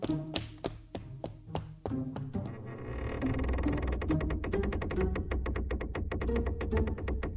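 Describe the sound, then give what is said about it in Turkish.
A door's hinges creak as the door is worked back and forth, a ratcheting series of clicky groans that grows denser and steadier partway through, with no talking. “Ben de gıcırtı tam nereden geliyor bir bakayım.”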